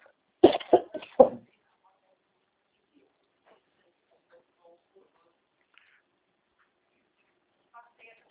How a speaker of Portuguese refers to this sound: Ai, tosse.